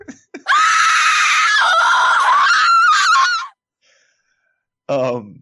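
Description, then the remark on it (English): A woman lets out a loud, piercing, shrill shriek that holds for about three seconds, then after a short silence gives a brief second cry. “You made me lose my train of thought with a shrieking woman's sound.”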